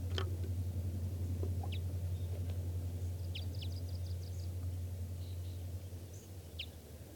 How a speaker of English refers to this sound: I hear the calls of more wild birds. There's a pair here now. At least a pair. And they sound like type 5. Stop. They're recording wild birds.